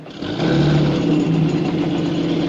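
A boat engine drones steadily as the boat arrives at a pier, swelling in within the first moment and then holding a constant, buzzing hum with no voices.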